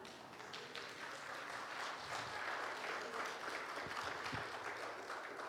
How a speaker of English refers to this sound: You can clap. That was good.